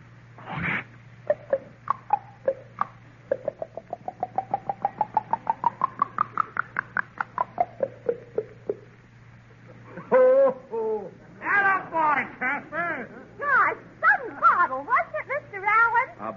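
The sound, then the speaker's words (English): A voice mimics a ginger ale bottle: a sharp pop, then a rapid run of clicking glugs climbing steadily in pitch, followed by bursts of bubbly, warbling fizz noises. “Okay, give us a ginger ale bottle,”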